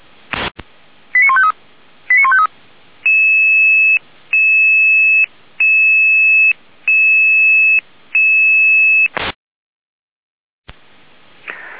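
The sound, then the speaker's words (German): A radio dispatch alarm alerting the volunteer fire brigade FF Segefeld to suspected multiple traffic accidents on the A4 at Weimar towards Apolda: after a squelch click and a couple of quick warbling beeps, a loud steady electronic tone pulses five times in an even rhythm, ending with a sharp click and hiss. “In Alarm.”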